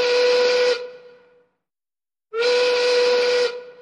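A factory siren sounds its evening call in two long blasts separated by a pause: a steady, loud tone with a rushing, hissy edge, each blast fading out slowly.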